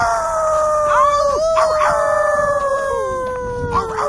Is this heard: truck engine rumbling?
no